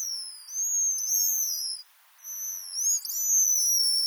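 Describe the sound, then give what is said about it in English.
High, thin whistles and wavering trills from a pigeon guillemot come in two sustained bursts separated by a short pause, clear with no voices. “Although many seabirds utter groans and croaks, the pigeon guillemot produces this lovely series of trills and whistles.”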